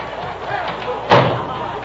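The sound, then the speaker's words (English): A side door slams shut once with a sharp, heavy bang midway through, over a low murmur of background voices and room noise. “Out the side door.”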